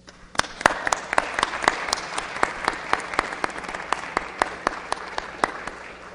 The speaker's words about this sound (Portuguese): Eu quero agora convidar e quero que a gente receba com a salva de palmas a companheira Mãe Estela de Oxóssi para fazer o seu pronunciamento.